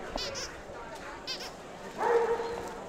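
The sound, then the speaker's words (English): Several dogs bark in short, sharp bursts over a busy murmur of voices at the Golden Gate Kennel Club Dog Show, with one louder bark rising near the end. “This year's Golden Gate Kennel Club Dog Show happens January 30th and 31st.”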